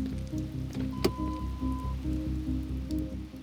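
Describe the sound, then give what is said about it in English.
Heavy rain pours down steadily during a rainstorm at night, with a low, rhythmic throbbing pulse running beneath the downpour and one brief sharp tap partway through; no voices. “The night of the rainstorm,”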